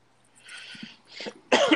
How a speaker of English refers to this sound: Excuse me. God dang. I don't know where the hell this cough came from. It just came out of nowhere today.